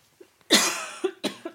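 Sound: heavy coughing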